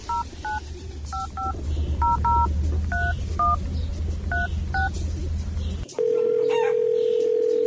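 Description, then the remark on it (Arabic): A rapid series of paired-tone touch-tone beeps as a phone number is dialed over a low rumbling background, followed by a steady ringback or dial tone. “جرب اضرب له اي زول تعرف في المدينه اللي بتعرفه هناك اضرب له.”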